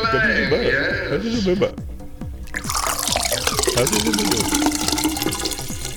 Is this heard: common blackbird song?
no